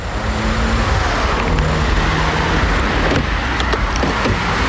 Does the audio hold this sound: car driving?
yes